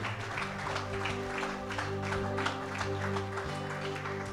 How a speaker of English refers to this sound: For the sake of the two that raised their hands, let's just give them a round of applause.